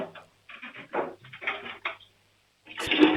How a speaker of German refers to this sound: Wow. Die haben eine laute Klospülung. Ihr habt aber eine schön laute Klospülung